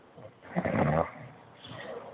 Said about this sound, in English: Is that somebody? Is that somebody snoring on the air? Say, man, how you call in my show and snoring on the air, man? Man, this is crazy.